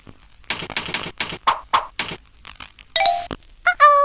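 A quick run of sharp clicks, like typing, gives way to two short, bright ICQ messenger notification chimes signalling an incoming file transfer, the last one warbling briefly. The sounds are clear, with no talking.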